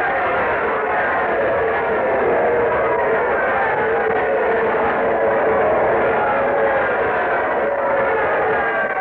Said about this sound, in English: Oh, the crowd's giving him quite an ovation. Listen.